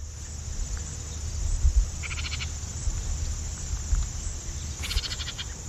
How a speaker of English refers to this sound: I want to give a listen to some birds that we can watch out for. We've got some bird calls here. First, the house wren.